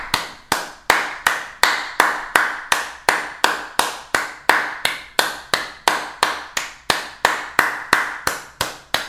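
Hands clap over and over, 1000 claps in all, in a steady, fairly quick rhythm, each sharp clap loud with a short ringing decay, about three per second with no voices.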